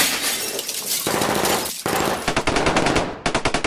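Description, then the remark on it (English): Loud bursts of rapid automatic gunfire rattle almost without pause as two terrorists fire into glass panels in an office, mixed with crashing and shattering glass, ending in a quick, evenly spaced run of sharp shots. “A hail of bullets tear through the office.”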